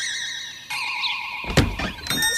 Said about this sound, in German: Aber die Tür hat keine Klinke. Wie soll man dann reinkommen? Ganz einfach. Ene, mene, Bindestrich. Türe bitte öffne dich. Hex, hex.